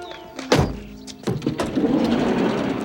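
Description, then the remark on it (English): A van's heavy side door slides open with a mechanical clunk and rolling rumble, followed by a second thump and sustained rattling noise, loud with no voices. “Wayne opens the van's side door.”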